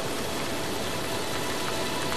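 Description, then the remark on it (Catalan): Audience applause on the television studio set of the quiz show Enciclopèdies humanes, a dense and steady wash of many hands clapping at once, crackling evenly for a couple of seconds with no voices over it. “Soroll d'aplaudiments del públic.”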